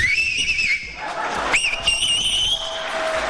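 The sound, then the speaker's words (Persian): A loud, piercing whistle made by a man with two or three fingers in his mouth, held steady for about a second, then a quick upward swoop into a second long blast, over a murmuring crowd in the background. “ببین این آقا عزم میخوام سه تا انگشتش یا دو تاشو گذاشته تو دهنش داره سوت میزنه.”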